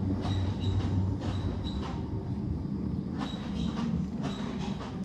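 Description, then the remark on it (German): A tram in Germany rumbles past, its wheels letting out thin, high metallic squeals in short repeated bursts over a steady low rolling roar. “Straßenbahn. Die lauteste in Deutschland.”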